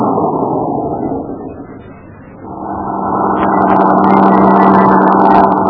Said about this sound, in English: The rest of the line of trucks rolled past us, and so Cowell's truck bringing up the rear came into sight.